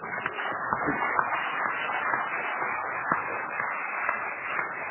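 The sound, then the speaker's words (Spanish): A studio audience applauds loudly and steadily, a dense crackle of many hands clapping at once that holds an even level for the full five seconds, with no voices over it. “Está bien, por lo visto sí, esto es un aplauso fuerte, no es un aplauso convencido.”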